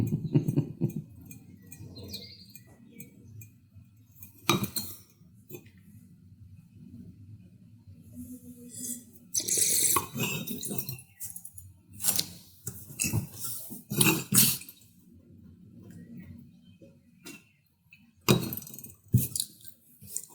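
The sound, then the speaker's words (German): Three wine glasses chink and clink against each other several times, with bright, irregular taps and faint rustling, soft swirling over a low background hum, as the wines are swirled and sniffed. “Drei Gläser werden nochmal schön inhaliert.”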